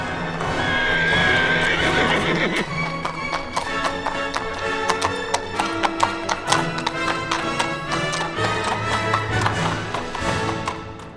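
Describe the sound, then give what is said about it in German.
A horse being ridden away whinnies loudly at the start, then hooves clip-clop in a steady rhythm for several seconds with sharp percussive taps. Nobody speaks. “Also machte sich der Älteste zu Pferde auf und davon.”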